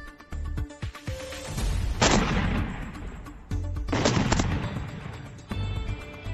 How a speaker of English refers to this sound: New at 6, those flashes of light and explosions were captured late Saturday night. Since then, other neighbors in Webster told us they heard different booms this week.